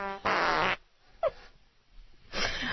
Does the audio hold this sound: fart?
yes